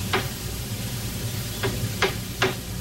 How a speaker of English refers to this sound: Hearing the hammering outside, she steps toward a sliding door.